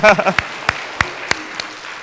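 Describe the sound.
A brief burst of voice gives way to five sparse, evenly spaced handclaps, sharp and moderately loud, like a thin, slow round of applause that quickly trails off.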